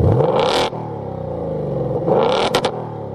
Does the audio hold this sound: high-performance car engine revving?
yes